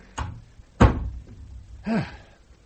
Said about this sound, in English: Come in. Close the door.